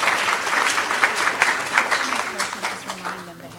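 An audience breaks into steady, dense applause for the staff, many hands clapping together at full volume before the clapping thins and fades toward the end.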